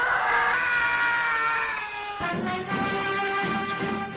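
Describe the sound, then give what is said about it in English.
The Howie scream, a loud, drawn-out stock movie scream, shrill and sustained for about four seconds, shifting to a lower, rougher cry partway through. No one is talking over it. “It wasn't until 30 years later that it was succeeded by the Howie scream, which became a particular favorite of sci-fi directors.”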